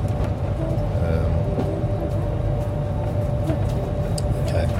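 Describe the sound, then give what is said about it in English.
Steady, loud low rumble of a train's interior, with a thin constant whine running through it and a few faint clicks and rattles near the end; no one speaks. “And I'm recording this in the backdrop, just whatever else is going on really on the train, because, you know, life does go on”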